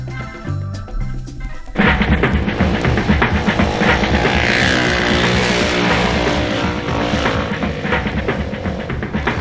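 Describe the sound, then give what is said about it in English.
A motorcycle engine idles low for a moment, then roars loudly into a sustained, throbbing rev as it drives by, the engine note wavering throughout. “Motorcycle has two wheels and handlebars to steer it. It's fun to drive, and when you drive, everyone can hear it.”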